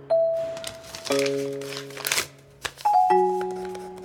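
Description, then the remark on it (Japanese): A sheet of paper rustles and crinkles in a few short bursts as it is handled and handed over to be passed to the boss, over steady sustained musical tones; no one speaks. “この紙をボスに渡せ。”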